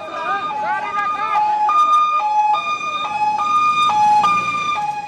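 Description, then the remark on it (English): Loud ambulance sirens in Kandahar, Afghanistan, one wailing briefly before a steady two-tone hi-lo siren alternates repeatedly, with indistinct voices of private citizens ferrying wounded to the main hospital after a Taliban suicide bomber attacked a crowd at a dogfight, and street commotion beneath. “NPR's Afghanistan correspondent Soraya Sahadi Nelson recorded those sounds of ambulances and voices of private citizens ferrying scores of wounded to the main hospital after a Taliban suicide bomber attacked a crowd at a dogfight”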